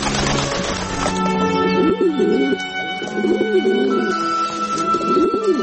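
Pigeons coo in soft, throaty rolling phrases that repeat every second or so over a steady low background hum.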